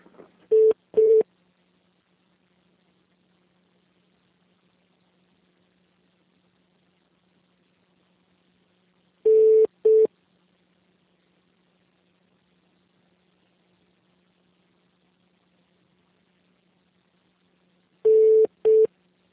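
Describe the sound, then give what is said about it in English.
Telephone on-hold beeps heard by a caller placed on hold at a bank: a quick pair of mid-pitched electronic tones repeats about every nine seconds, three times in all, with near silence and a faint low hum between them. “Hey, I was just on hold to hear what it sounded like for callers to be on hold, and I just heard the beeps there, so that's what I need, and I'll hang up”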